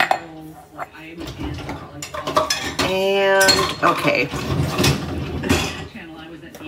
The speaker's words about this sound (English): And I decided I'm going to listen to a podcast and I'm going to load the dishwasher. So here's the tape. Spatula. Ladle. Pot lid. Drinking glass. Other drinking glass.